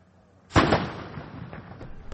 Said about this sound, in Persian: توپخانه ارتش عراق مواضع گروه حکومت اسلامی را در داخل موسل هدف می‌گیرد. این منطقه حدود 900 متر از مرزهای اداری موسل فاصله دارد.